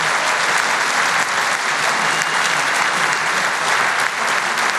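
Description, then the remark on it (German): Sustained audience applause for Austria's new state champion car body technician, a dense steady wash of many hands clapping at an even loudness throughout, with no voices standing out. “Jetzt kannst du dich feiern lassen. Das ist dein Applaus.”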